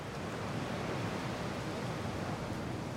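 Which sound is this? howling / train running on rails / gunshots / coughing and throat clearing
howling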